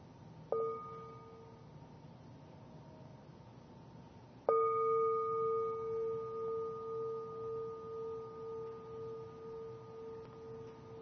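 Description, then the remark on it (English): A meditation bell is struck twice: a light first tap that fades quickly, then a full ring whose clear tone hums on with a slow, pulsing shimmer as it decays. “Relax, enjoy your breathing as you listen to the sounds of the bell, the voice of the awakened one calling you back home to your breath, to your heart, to your body.”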